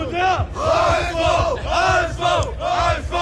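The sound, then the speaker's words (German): A packed crowd in the completely full Unabsteigbar bar, shortly before the match, chants and cheers loudly in unison for HSV, voices rising and falling in a rhythmic, repeated chant over steady background noise. “Leute, wie wird hier gleich angefeuert?”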